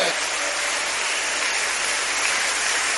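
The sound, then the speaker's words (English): A crowd clapping their hands for Jesus in a dense, steady wash of applause that holds at an even loudness for the whole stretch, with no single claps standing out. “Now if you are clapping for Jesus, you should do it very well.”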